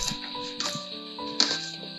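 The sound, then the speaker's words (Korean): A Chinese cleaver chops Cheongyang chili peppers on a cutting board in a home kitchen, four or five dull, knocking thuds at an uneven pace over a steady, faint tonal hum. “그래서 중식도 아무래도 조금 둔탁한 소리가 나죠.”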